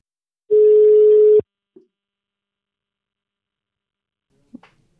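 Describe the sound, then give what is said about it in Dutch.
A voicemail beep: one steady, mid-pitched electronic tone lasting about a second, cut off abruptly, then near silence broken by a couple of faint clicks. “Boodschappen naar de piep.”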